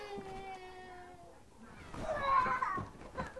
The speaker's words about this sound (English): Do you hear the kitty? You see the kitty? See the kitty? Say hi, Pepper. See, Pepper?